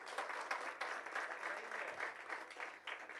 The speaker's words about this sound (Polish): Dziękuję, rozumiem, że to są brawa dla mojej żony.